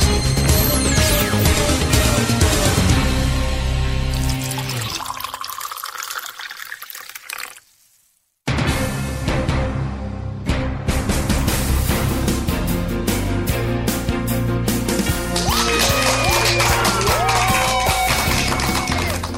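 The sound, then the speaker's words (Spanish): Sustained applause from a crowd, a dense and steady wash of clapping that breaks off briefly near the middle and then returns at full strength, with some tonal music sounding over it. “Y con esa energía positiva y esos aplausos damos inicio a un nuevo episodio, episodio 41 ya del programa Te Invito un Café.”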